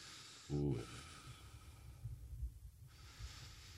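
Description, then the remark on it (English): Heavy nasal breathing: a short snorting burst, then a slow, rough draw of air through the nose with a low rumble, followed by a long, hissy exhale. No one speaks. “Give us some breathing.”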